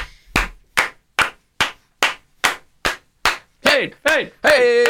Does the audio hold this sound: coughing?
no